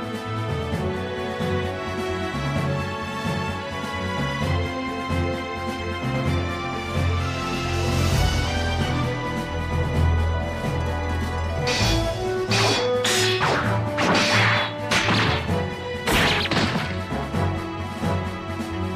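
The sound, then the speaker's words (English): A loud, full animated-style video game opening theme plays throughout. Partway in, a rapid series of sharp crashes and smashing impacts bursts over the music, with no voices. “That was the animated opening that I thought slapped.”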